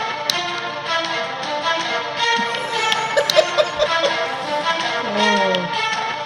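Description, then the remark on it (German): A door handle rattles and knocks in a quick cluster of sharp taps partway through as someone tries to open a door that won't open, set against a steady, dense tonal background hum with no one speaking. “Mich nervt ein bisschen, dass die Tür nicht aufgeht, als ob ich hier nicht raus darf.”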